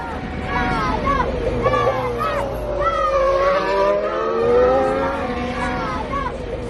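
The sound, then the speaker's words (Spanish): A Ferrari race car engine whines past at steady volume, its pitch sweeping as it goes by, while a group of young Italian fans cheer and shout excitedly throughout from a bridge outside the Fiorano circuit. “El ánimo de los niños italianos al paso del coche Ferrari de Carlos Sainz”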